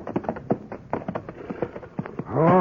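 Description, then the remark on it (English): Several horses tied at a hitching rail, hooves clopping and stamping in an irregular patter, before a loud whinny rises at the end. “Hey, look at all them horses at the hitching rail there.”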